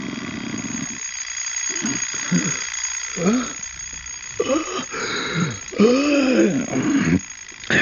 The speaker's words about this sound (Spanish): ¿Qué pasa? Tranquilo, todo está en orden. Solo es el despertador. Sí, claro. El despertador.